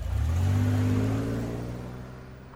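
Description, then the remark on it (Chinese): A travel agency's tour bus engine revs up and accelerates as it sets off for the airport, a deep rising rumble that is loud at first, then gradually eases and fades as it pulls away. No voices. “说完，刘春兰一手挽着小峰的胳膊，一手拉着行李车，和小峰一起上了旅行社的大巴。”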